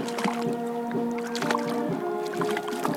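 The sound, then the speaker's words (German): A Renke (whitefish) caught in Lake Tegernsee is brought aboard a small boat with irregular splashes, wet thumps and knocks against the hull over a steady low motor hum, fairly loud, with no talking. “Genau, da kommt die Ränke ins Boot.”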